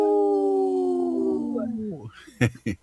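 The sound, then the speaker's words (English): A person on a Native Roots Radio broadcast imitates a wolf with a long, sustained howl that slowly falls in pitch and fades, followed by two short, sharp yelping bursts. It's loud. “I saw your neck went up like a wolf. I saw that. I had to play the whole part.”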